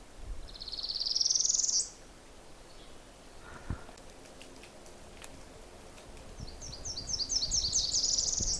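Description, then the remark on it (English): Two warblers sing in quiet woods: a parula warbler's high, buzzy rising trill, then after a pause a Nashville warbler's two-part song of rapid repeated high notes. “Now, singing with the little parula warbler, there's also a Nashville warbler. It's that two-parted song.”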